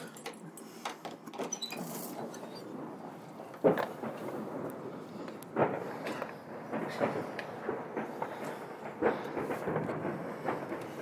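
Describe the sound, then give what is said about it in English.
New Year fireworks at Shawcross burst in irregular booms and sharp cracks over a continuous rumbling, crackling wash of sound, with several louder blasts standing out every couple of seconds and no voices. “This is the fireworks at Shawcross.”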